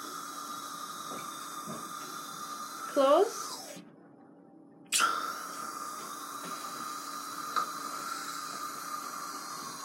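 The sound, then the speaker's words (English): Steady dental water spray and suction hiss during a teeth cleaning runs through, cutting out abruptly for about a second before resuming just as loud. A voice speaks briefly over it. “Okay, open water.”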